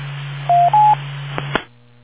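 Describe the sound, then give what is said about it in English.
A radio signal from the Delfi-C3 satellite, built by students at Delft University, which has no onboard battery and works only in sunlight, comes through as a narrow, tinny transmission with a steady low hum, two short tones in quick succession, then a couple of sharp clicks before it cuts out. “It's called the Delphi C3. It's made by the students at Delft University.”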